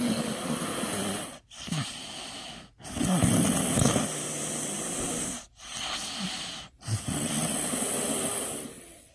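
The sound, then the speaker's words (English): A toddler snores steadily in sleep, with five long, raspy breaths separated by brief quiet gaps. The snoring is fairly loud, with a hissy, wheezing texture and no talking. “She has been snoring ever since she was a baby.”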